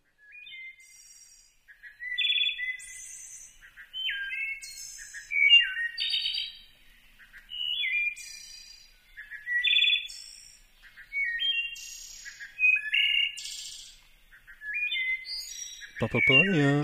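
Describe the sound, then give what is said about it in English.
A field recording of a wood thrush singing clear, flute-like phrases ending in trills, repeated in rhythmic bursts every couple of seconds, fairly loud against a quiet background, until a sudden low thump at the very end. “Yeah, so this is like some field recordings of different birds. I have the hermit thrush, the Swainson's thrush, but I'll play you the wood thrush.”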